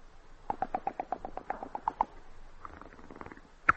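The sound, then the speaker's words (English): A voice imitates rolling dice with a quick burst of clattering mouth clicks that slows and softens into a light rattle, ending on one sharp click. “Next is the rolling of the dice.”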